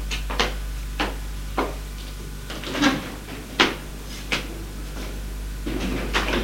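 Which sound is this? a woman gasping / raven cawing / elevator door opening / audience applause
elevator door opening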